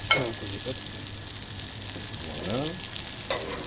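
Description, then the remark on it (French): Foie gras sears in a frying pan until well cooked and caramelized on top and underneath, with a steady, loud sizzling hiss and crackle that runs the whole time, broken by a few brief clinks and scrapes. “Donc une fois qu'il est comme ça, bien saisi, bien cuit, on le voit, il est bien caramélisé au-dessus et en dessous.”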